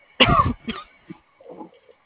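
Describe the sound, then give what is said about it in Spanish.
A sharp, loud cough bursts out, followed by a shorter second hack and a softer, rasping throat clear trailing off. “Hay que cuidar la tos.”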